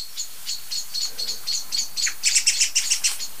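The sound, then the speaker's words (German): Many blackbirds and song thrushes scold in alarm in a rapid, steady series of sharp, high chattering calls, growing louder and denser toward the end, with no voices present. “Und es ist nicht nur eine Amsel oder eine Singdrossel. Es sind jetzt viele, ne?”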